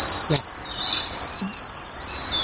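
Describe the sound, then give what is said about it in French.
A bird sings a high, bright, varied song of several phases, about 4-5 seconds long, outdoors, with a run of quick repeated notes forming a trill in the middle, set against a steady hiss of background ambience. “Il y a une phase de tri au milieu.”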